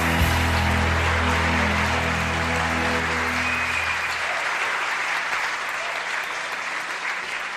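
Loud, sustained applause from an audience, a dense wash of clapping that continues steadily throughout, with a low tonal hum beneath it during the first half.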